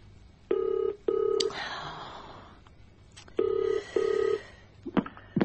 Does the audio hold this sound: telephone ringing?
yes